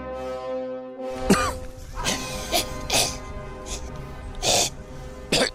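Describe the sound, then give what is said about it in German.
An audience coughs and clears their throats in a scattered series of sharp bursts after a sustained musical tone fades at the start. “Ich hätte es an dem Zischeln, Scharren, Räuspern, Brummen durch alle Tonarten bemerken können.”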